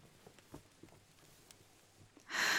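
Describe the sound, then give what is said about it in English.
Soft, faint panting breaths recur at uneven intervals, then a loud, rushing breath blasts at the end. No one speaks. “You're panting an awful lot.”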